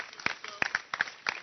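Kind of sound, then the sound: crowd, audience clapping hands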